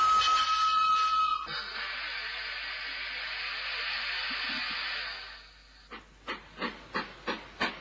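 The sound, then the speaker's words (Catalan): An express train runs by with a loud, sustained hiss of steam and rushing noise, then a series of rhythmic chuffing bursts near the end, repeating steadily about every half second. “Escoltarem un tren express.”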